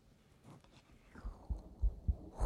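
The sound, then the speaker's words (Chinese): Deep, muffled human heartbeat thumps recorded with a microphone pressed against the chest after the clothing is rolled up, a steady run of low pulses starting midway, preceded by soft rustling and handling noise. “我真的好久没有做心跳了，好久。”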